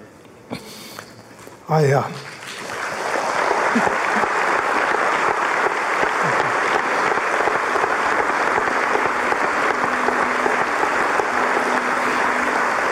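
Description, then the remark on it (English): After a brief quiet opening with a short sniff-like sound, a large Mars Hill church audience breaks into dense, steady applause for Mark that swells quickly and keeps going loudly for about ten seconds without fading. “That applause you hear, it matters.”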